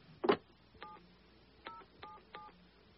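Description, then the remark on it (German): A sharp click, then four short two-tone telephone keypad beeps dialed at uneven intervals as a man dials a number to call Herr Fischer, with no one speaking. “Hören Sie zu. Er telefoniert.”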